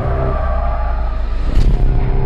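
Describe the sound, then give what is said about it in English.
A heavy bus engine roars loudly, with a grinding skid, then a sudden harsh burst of noise as the bus crashes about halfway through, intense, with no talking. “The bus crashed.”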